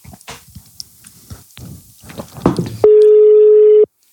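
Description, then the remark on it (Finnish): After some soft clattering and handling noises, a phone call's ringing tone sounds once as someone calls again, a single steady, loud electronic beep lasting about a second, clear. “Soitaan uudestaan”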